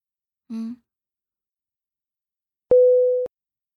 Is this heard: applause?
no